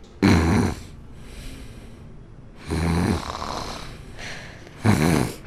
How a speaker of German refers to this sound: Boah, wer schnarcht denn hier so laut? Das ist ja nicht auszuhalten.